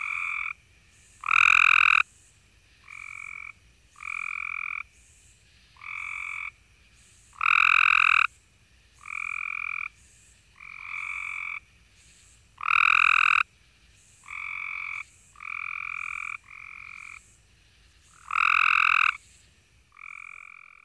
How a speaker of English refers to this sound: Now listen to a group of the identical-looking Cope's gray tree frogs. Their calls are less musical, and the pulses within each call are delivered more rapidly.